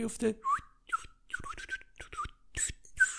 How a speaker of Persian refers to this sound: نمیتونم سوت بزنم متاسفانه.